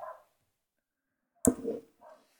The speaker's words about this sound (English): Sounds like your dog does. My dog disagrees with everything. He's a Westie, so he's genetically Scottish, and he's from the northeast of England.